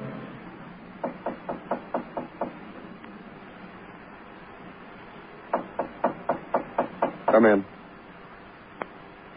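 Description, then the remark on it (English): Two quick series of sharp knocks on a door, about six raps each with a pause between, followed by a brief louder rattle and one faint final tap. “Well, I knocked you.”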